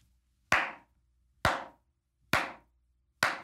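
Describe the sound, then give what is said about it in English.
A slow clap for the President of the United States: four loud, sharp single claps evenly spaced about a second apart, each ringing off briefly into near silence, with no voices and no applause joining in. “Slow clap that builds into an impressive round of applause for the President of the United States.”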